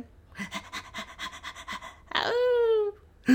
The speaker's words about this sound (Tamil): இங்கேயும் நாய் தானா? இதோ எங்கள் செல்லம். என்னடா செல்லங்கிறீங்க, குள்ளமாக ஒரு நாயை காட்டுறீங்க.